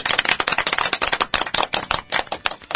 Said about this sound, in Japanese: 気を取り直してしっかりと頑張っていきたいと思います。 拍手。はい。